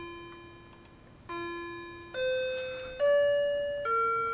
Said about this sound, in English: Just ignore the bells. That's my clock in the background. Sorry about that.